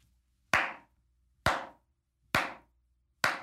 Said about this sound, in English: Slow clap that builds into an impressive round of applause for the president of the United States.